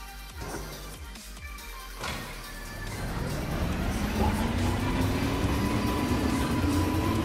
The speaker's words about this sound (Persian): بریم قطار رو را بندازیم. درست شد، بریم.